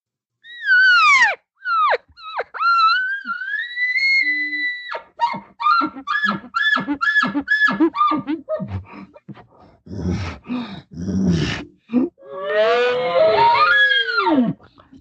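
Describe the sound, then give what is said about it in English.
A person imitates a bull elk's moaning call to a cow, as a bull does when trying to call the cow away from another bull: a high, drawn-out whistling squeal, then a quick run of grunting chuckles, ending in a long wavering moan that rises and falls. “So if you're going to talk to the cow, here's what a bull would do when he is trying to call the cow away from another bull.”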